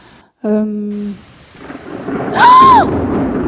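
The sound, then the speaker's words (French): A thunderstorm with rain builds with a rising rumble and a hiss of rain, after a short steady droning tone near the start and a brief whistling sweep over the noise. “Ah, c'est la tempête, ça. C'est l'orage”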